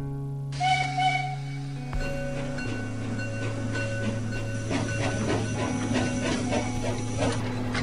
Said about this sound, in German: Ein Pfiff. Der Zug fährt an. Rattert mit Getöse in die Tiefe des Waldes.